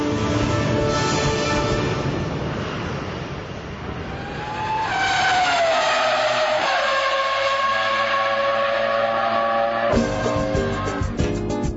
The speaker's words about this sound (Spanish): Bueno, seguramente esta forma de comenzar la columna de viajes los debe haber sorprendido. Lo primero que escucharon fue ruido a motores.